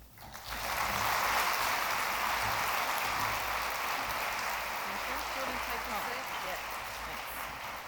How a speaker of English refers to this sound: for another round of applause.